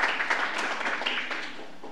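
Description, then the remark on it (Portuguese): A crowd applauds steadily for a woman receiving an honor at a ceremony, many hands clapping in a dense, continuous patter at an even level for the whole stretch, with no voices standing out. “Uma calorosa salva de palmas”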